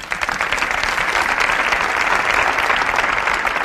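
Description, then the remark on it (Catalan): An audience breaks into steady, sustained applause to welcome a startup founder as a guest, a dense wash of many hands clapping at an even loudness for several seconds with no talking over it. “saludem-lo i l'aplaudim tots plegats.”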